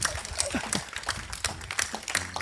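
A live audience claps at the opening of the show Fisch im Tee in a dense, steady wash of overlapping hand claps, bright and crackly, with a few fragments of voices mixed in underneath.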